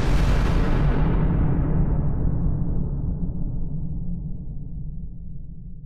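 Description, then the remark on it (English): A loud sci-fi hyperdrive jump whoosh as the hyperdrive button is hit, bursting in bright and full, then steadily darkening and sinking into a heavy, sustained low rumble over several seconds, with no voices. “Luki, getting the all-clear signal from Len, hit the hyperdrive button, and the universe evaporated in a blinding flash.”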